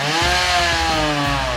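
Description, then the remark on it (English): A chainsaw running on a fuel being demonstrated runs at steady high revs, its loud buzzing engine drone continuous, with a rough grinding texture as it cuts through a big block of melting ice, spraying water and ice everywhere, in a small airplane hangar on a very hot day. “the fuel being demoed was powering a chainsaw cutting through this big block of ice”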